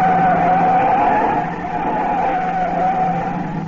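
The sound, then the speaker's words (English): Car tires skid with a sustained, wavering squeal over a loud engine roar as a car swerves sharply right onto a bridge, steady for several seconds with no voices. “I whipped my whip to the right and skidded onto a bridge.”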